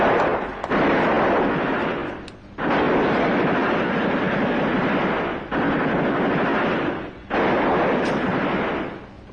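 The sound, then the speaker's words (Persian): Loud, continuous bursts of heavy gunfire during a prison riot roll on in long volleys, broken by a few abrupt short pauses before resuming at full intensity; no voices are heard. “ای دست از تیراندازی نکشن هر دوشون رو میکشیم.”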